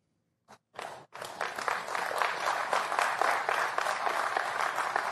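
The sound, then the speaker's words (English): A couple of isolated claps, then applause from a crowd that holds at a moderate level for several seconds, with no voices heard over it, at the Morehouse College commencement in Atlanta, Georgia, where Joe Biden spoke. “Not a lot of clapping going on there in Atlanta.”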